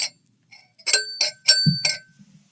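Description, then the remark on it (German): A series of bright glass clinks and knocks ring out, four or five sharp hits with lingering tones, ending in a dull thump as the glass is set down or caught. The glass stays unbroken. “Und das Glas ist heil geblieben.”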